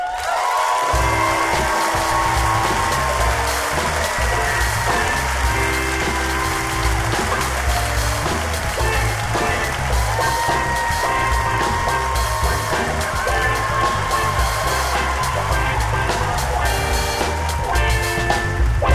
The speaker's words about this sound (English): Hello, everyone. Clap for you. Clap for you.